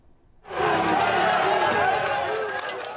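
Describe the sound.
A loud protest crowd on the streets of Paris, protesting new vaccine mandates meant to stop a surge in coronavirus infections. Many voices shout and clamor together, bursting in after a brief quiet moment and holding steady as a dense, continuous roar.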